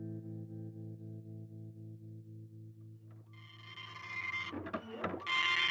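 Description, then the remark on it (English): A printer in North Carolina hums with a steady, pulsing electric buzz, then shifts into louder mechanical whirring and clattering as the paper feeds through, clear with no voices. “Down in North Carolina, a printer buzzed.”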